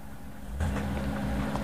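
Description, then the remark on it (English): A garbage truck's heavy engine rumbles low and steady, then swells louder with a rough, broad burst of noise partway through as it pulls to a stop at the Nova Lab's main gate. No voices. “The garbage truck stops at the Nova Lab's main gate.”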